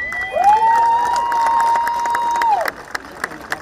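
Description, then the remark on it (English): A massive crowd gathered for a peace walk in Columbia cheers and applauds, with one long rising-and-falling whoop carrying over the noise for a couple of seconds before the roar drops off to scattered claps. “That gratitude also coming from the massive crowd that came to witness the peace movement heard around the world.”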